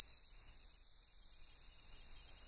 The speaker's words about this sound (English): The grasshopper mouse howl gets up to almost 14,000 hertz. Hear it on your car radio? Not likely. It works better if I lower the pitch by slowing it down.